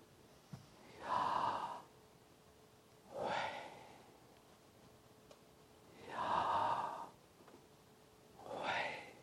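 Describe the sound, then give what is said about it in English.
A single voice breathes slowly in and out, shaping the breaths to imitate the word "Yahweh": four long, airy, whispery breaths alternating in a steady rhythm. “And we think that possibly Yahweh is an onomatopoeia of breathing.”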